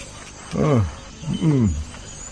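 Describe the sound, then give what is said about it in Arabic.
A donkey that is being ridden brays twice, two loud, strained harmonic calls about a second apart, with a low background hiss and no talking. “انطلق يا حمار، انطلق.”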